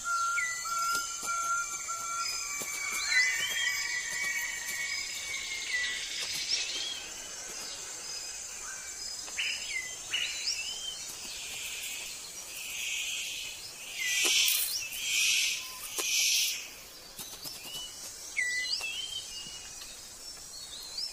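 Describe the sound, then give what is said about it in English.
Sharp, buzzy calls of a male superb bird of paradise, calling to attract a female, burst out in short bouts over a steady, high-pitched drone of insects in a forest, with no voices. “The superb bird of paradise calls to attract a female.”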